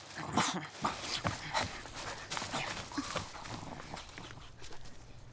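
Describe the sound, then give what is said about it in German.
A dog whimpers softly while footsteps crunch along a path, steady irregular steps with brief whines mixed in, and no one speaking. “Kommt oft vor, dass hier Leute mit ihren Hunden spazieren gehen. So wie ihr gerade, oder?”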